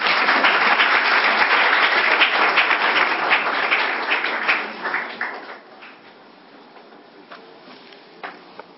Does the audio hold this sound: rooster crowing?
no